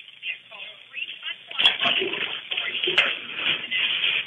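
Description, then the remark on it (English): Water being drained from a bathtub, heard over a phone call as a steady rushing, sloshing noise, with two sharp knocks partway through. “Okay, sir, did you remove the water from the bathtub? No, I haven't. Okay, take the moment to do that now, okay?”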